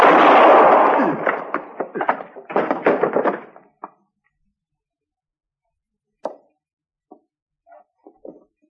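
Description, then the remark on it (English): A loud burst of gunfire opens into a rapid string of sharp shots, then the firing thins to a few scattered, fainter single cracks separated by silence. “It was my bullet that got him.”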